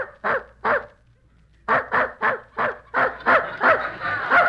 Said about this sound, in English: There's that dog in the next room barking again. Kept me awake half the night.